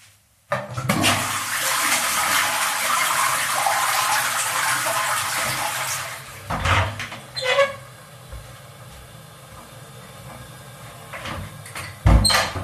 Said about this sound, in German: Und mit der Klospülung ist der Prozess eigentlich beendet.